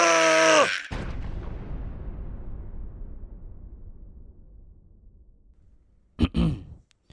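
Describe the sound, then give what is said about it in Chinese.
A loud, comic diarrhea sound of a cartoon goose: a sudden wet, blaring burst that trails off into a long, slowly fading rumble, then a brief grunting vocal sound near the end. “鹅落塞的声音很大声”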